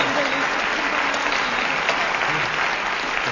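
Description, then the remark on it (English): A steady round of applause from a crowd, dense and even in loudness throughout, with many hands clapping at once in a continuous wash of sound. “Oh, you got to see, you got a round of applause there.”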